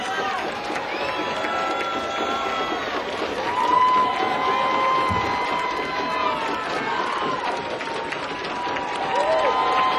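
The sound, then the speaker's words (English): A large concert crowd at the Old Waldorf in San Francisco applauds and cheers steadily for a band's encore, a dense roar of clapping mixed with whoops and shouted voices that holds at a constant loud level throughout. “We'll have to wait for them to come out, but I suspect from the crowd's reaction, they'll be out in a minute.”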